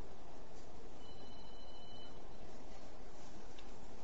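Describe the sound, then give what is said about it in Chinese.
A telephone beeps during a sermon with a high, thin electronic tone lasting about a second, set against a steady background hiss. No one speaks. “你们可以把电话机把它关掉吗？不能关掉吗？”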